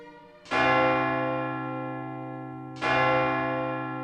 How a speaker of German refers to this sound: Der Glockenturm der Kirche befindet sich direkt neben dem Hotel. Das heißt, jede Stunde Glockenschläge.